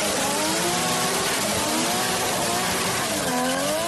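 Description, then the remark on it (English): Loud NASCAR stock car engines roar and rev continuously, their pitch rising and falling with a sweeping harmonic whine, dense with a rough, sustained racing-track intensity throughout, as crews work on the cars ahead of a Sunday run at Darlington Raceway in South Carolina. “Also back on the track is stock car racing, as NASCAR crews are working on cars right now for a run Sunday at Darlington Raceway in South Carolina.”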